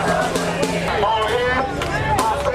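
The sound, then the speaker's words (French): A protest crowd in New York, rallying in support of Haitian migrants, chants slogans in English such as "No hate, no fear, migrants are welcome here", many raised voices blending into a loud, continuous roar with overlapping shouted phrases rising and falling throughout. “Les slogans scandés par la foule sont en anglais.”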